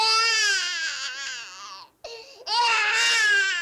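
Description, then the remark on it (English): A baby cries loudly in high, wavering wails: one long sobbing cry, a brief catch of breath, then another strong wail. No other voices. “The sound, that makes a baby cry.”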